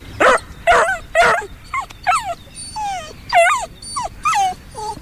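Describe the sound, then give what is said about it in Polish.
A dog on a walk gives three quick, loud barks, then breaks into a string of high, rising whines and yips that carry on for several seconds. No one speaks. “Najpierw spróbujmy wejść w sytuację pana, pani, psa, smyczy i po prostu podsłuchać, jak to wygląda na spacerze.”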